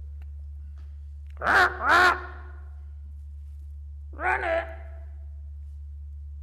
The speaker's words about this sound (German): Oh, das ist sicher wieder die Krähe, die man ruft.